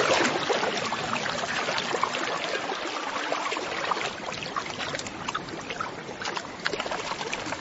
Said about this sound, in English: A freshwater stream through the forest makes a handy highway for a parent penguin heading home from a fishing trip with a crop full of food.